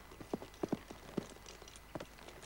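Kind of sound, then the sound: animal, horse hooves clip-clopping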